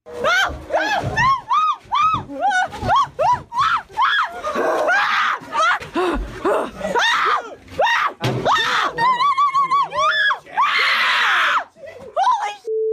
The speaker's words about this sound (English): Here's a montage of some of those screams.